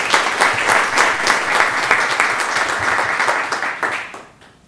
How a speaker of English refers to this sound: Let's give a round of applause for Mrs.